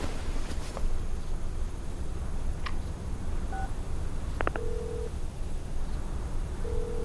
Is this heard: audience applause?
no